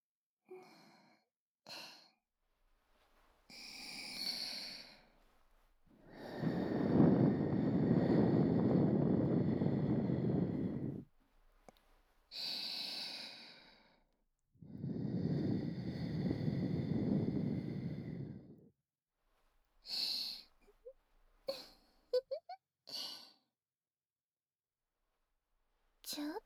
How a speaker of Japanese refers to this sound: 魔力を込めて耳に息を吹きかけるだけでこうなっちゃうんですね。